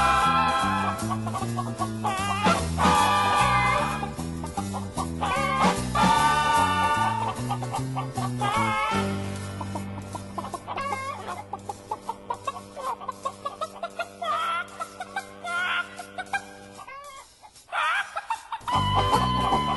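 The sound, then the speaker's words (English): Chickens cluck loudly in a rhythmic, almost musical pattern, with repeated pitched clucks over sustained tones and no one talking. “And for those of you who may be in the mood for backyard chicken farming, given what's happening around the state, this one's for you.”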